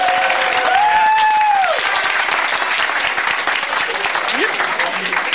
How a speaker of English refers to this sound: How about another round of applause for us?